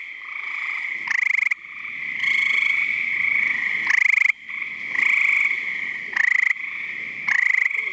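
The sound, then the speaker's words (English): A loud chorus of gray tree frogs giving rain calls, trilling nonstop, overlapping pulsed calls swelling in bursts roughly every second or so, dense, with no voices. “The last of the amphibians, rain calls of gray tree frogs conjuring a tropical rainforest.”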